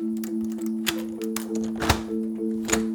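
The wooden back door of a house takes four heavy, irregularly spaced kicks as someone tries to kick it down, each a dull thunk with a sharp crack on top, the third hardest. A steady low hum runs underneath throughout.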